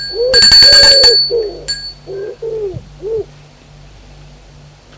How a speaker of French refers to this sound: Petite maison en pierre d'un étage. Elle sonne à la porte.